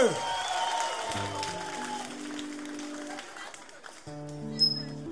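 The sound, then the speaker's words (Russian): An audience claps steadily for about five seconds, welcoming Oleg Gruz, while a short musical tune plays over the applause, with a brief high-pitched whistle near the end. “Олег Груз, встречайте, аплодисменты!”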